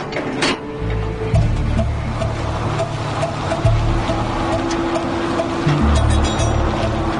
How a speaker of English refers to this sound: After a night in the Winnipeg hangar, the plane engines are warmed and ready to go, and the weather conditions are perfect.